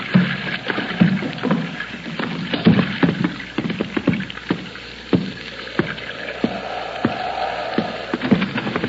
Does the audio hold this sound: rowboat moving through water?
yes